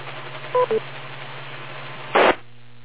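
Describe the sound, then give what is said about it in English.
A repeater courtesy beep: two quick electronic tones, the second lower than the first, over a steady radio hiss and hum, followed a moment later by a short burst of static. “Wait a second or two beyond the beep, please.”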